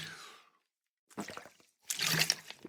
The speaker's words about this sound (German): Na, ich habe mich verschluckt. Schluck Wasser. Besser.